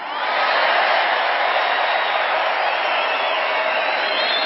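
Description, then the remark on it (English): A large rally crowd in Arizona, filling the seats up to the rafters, roars with sustained cheering and applause, a dense, steady wash of clapping and shouting that holds loud and unbroken throughout, with occasional whoops rising above it. “Look at this crowd. It's amazing.”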